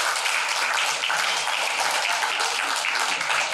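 A crowd applauds steadily as an audience member is called to the front to receive give-away items, many hands clapping at once into a dense, even wash of sound that holds at a constant loudness throughout, with no voices standing out.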